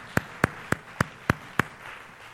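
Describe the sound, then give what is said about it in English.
Six sharp hand claps land on a steady, quick beat, like a church group clapping in unison to applaud the Lord, then stop, leaving only a quiet hum. No one speaks. “Why don't we just take some time and just applaud for our Lord and our Savior?”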